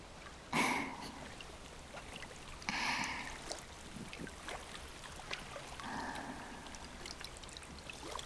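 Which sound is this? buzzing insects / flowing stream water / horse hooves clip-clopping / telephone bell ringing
flowing stream water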